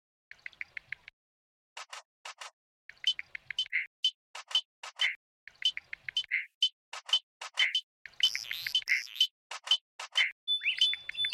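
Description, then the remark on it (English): A frog chorus in Kasuko National Park featuring the spike thumb frog: bursts of sharp, high chirping calls repeat about every two seconds, overlapping and growing busier toward the end, with no voices. “And now, to play us out, here's Ben's track featuring the chorus of Kasuko National Park, including the unmistakable sound of the exquisite spike thumb frog.”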